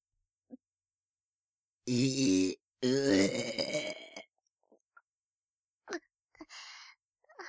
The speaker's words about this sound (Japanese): 女の子のイメージぶち壊しのとってもお下品なゲップしてしまいましたわ。女の子のお口からえぐいゲップ。